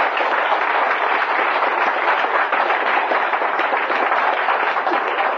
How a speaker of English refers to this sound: Let's give them a really good round of applause.